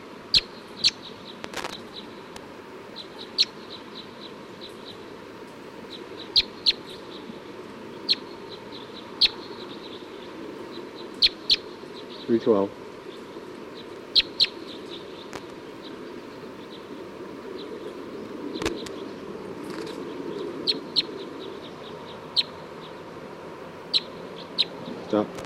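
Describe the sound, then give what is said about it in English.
A field recording of bird 312: short, high bird chirps repeat irregularly over a steady low rumble of background noise, with occasional sharp clicks and a brief rising whistle midway. “Pointed now at bird 310.”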